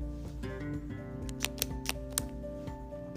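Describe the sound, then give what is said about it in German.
Four quick ballpoint pen clicks snap out crisp in an uneven burst, over a steady, soft musical drone that runs throughout; the clicking pen announces each step of a lesson. “indem ich die einzelnen Schritte immer mit dem Lieblingsgeräusch der 8a, dem klickenden Kugelschreiber, ankündige und erläutere.”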